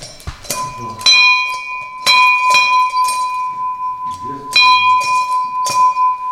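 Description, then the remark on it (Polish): A hand-rung bell serving as the siren of a Mercedes vehicle, rung by the passenger beside the driver, clangs loudly in a series of uneven strokes whose bright metallic tones ring on between hits, with faint voices murmuring in the background. “Nie ma mechanicznej syreny, tylko dzwonek, który pasażer obok kierowcy sam działał i pracował jako syrena właśnie dzwoniąc dzwonkiem.”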